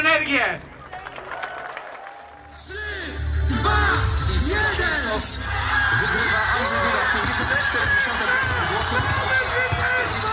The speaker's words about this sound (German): Nur gut 50 Kilometer weiter nördlich, im Herzen der kleinen Stadt Putusk, kennt zeitgleich der Jubel keine Grenzen. Andrzej Dudas Anhänger feiern, sie schwenken polnische Fahnen, der Bühnensprecher beschwört lautstark den Sieg.